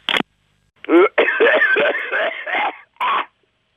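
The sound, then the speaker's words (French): A man coughs in a rough fit from the smoke of the Havana cigars he is smoking, a short hack followed by a longer run of raspy, strained coughs and one final bark, with a thin, telephone-like tone. “Voilà, je tousse.”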